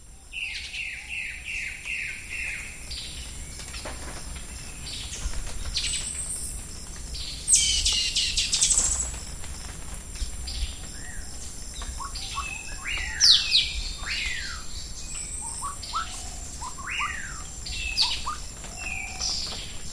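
A dense chorus of birds chirping and calling in a rainforest in Corcovado National Park, Costa Rica, with repeated descending whistles, sharp tweets and trills layered over a steady high insect hum, some calls louder than others.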